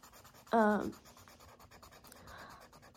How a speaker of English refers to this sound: I hope the marker sounds and like the colored pencil sounds aren't too annoying. I hope it's like, I don't know, like maybe it's ASMR for y'all, but we'll see.